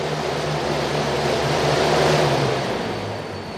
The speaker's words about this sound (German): Ja, das ist ein Gerät, mit dem man selbst Wind erzeugen kann. Im Prinzip ein Fahrrad, wo man sich draufsetzt und damit einen großen Propeller antreibt. Und ein entsprechendes Messgerät zeigt einem dann die Windstärke an.